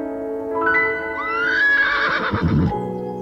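A horse neighs loudly, a rising, quavering whinny lasting a couple of seconds over a steady background hum, with a rough snort-like burst near the end, amid about twenty horses with riders running and jostling behind a barrier of people.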